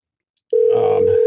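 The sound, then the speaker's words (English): An outgoing phone call's ringback tone starts abruptly after a short silence, a steady, loud electronic hum, with faint background noise underneath. “Hey, it's ringing.”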